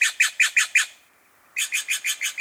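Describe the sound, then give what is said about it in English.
A Steller's jay gives a quick series of harsh, raspy calls, five in a row, then a brief pause before another rapid run of about seven, fairly loud. “Hear this bird? It's a jay, and it's blue. But this is a Steller's jay, not a true blue jay with a capital B.”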